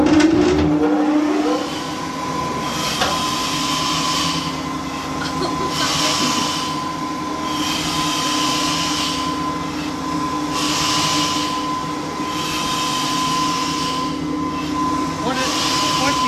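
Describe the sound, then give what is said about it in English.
A steam engine's piston releases steam in regular hissing bursts, roughly every two to three seconds, over a continuous mechanical rumble and steady humming tones. “Steam is air being compressed by the piston and coming out through a really small hole.”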